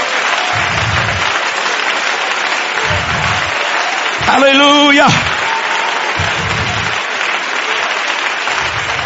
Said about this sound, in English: Please give God a hand clap of praise.